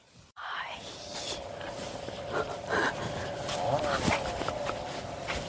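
A dog pants and sniffs in quick, breathy bursts as it follows the speaker, with a faint steady tone and soft outdoor background noise underneath, on a sunny winter day in Yangshuo, China.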